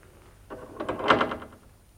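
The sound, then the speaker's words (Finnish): A door is pushed shut and then locked, a short burst of clattering, rattling knocks and metallic clicks lasting about a second, with no one speaking. “Ovi täytyy lukita.”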